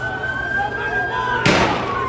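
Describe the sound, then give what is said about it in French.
Police sirens wail steadily over a noisy street crowd during a protest in Istanbul, Turkey, then a sudden sharp, loud blast from a tear gas grenade bursts out near the end. “Des grenades lacrymogènes, des jets de canons à eau, des sirènes de police et d'ambulance, des hommes et des femmes qui crient et courent pour éviter une nouvelle salve.”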